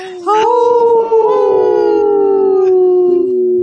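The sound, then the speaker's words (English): Several voices howl together in imitation of wolves during a Howling for Wolves radio show segment, one long sustained rising-then-falling howl with layered harmonics, loud, lasting a few seconds without any speech. “You've seen that you've listened to our show. You can howl with us.”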